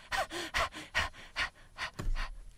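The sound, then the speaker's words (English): A rapid series of sharp, gasping breaths, six or seven in quick rhythmic succession, fairly loud, in the intro of a song, with no talking over them. “Hear the breathing?”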